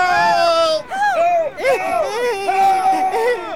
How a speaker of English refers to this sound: Suddenly, from out of the pounding surf, a million minnows in a mad dance formation squirm their way onto the beach and completely cover one of the unsuspecting bathers. Screams of panic are heard as both blanket and bather are pulled into the sea.